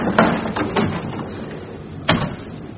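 A steady, muffled rumble of a train carriage rolling along, with a few heavier clunks at uneven intervals, like wheels passing over rail joints. No one speaks.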